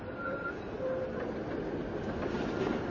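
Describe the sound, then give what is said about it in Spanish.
A tram rumbles in to a stop with a shelter, its steady low roar broken by faint high squeals from the wheels and rails as it slows. No voices are heard. “Llega un tranvía.”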